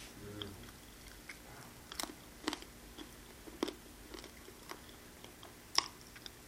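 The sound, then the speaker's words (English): Chewing a big piece of communion bread during a church communion, soft irregular crunches and wet mouth sounds repeating every second or so, with a few sharper bites standing out. “He gave us a big piece because I'm still chewing.”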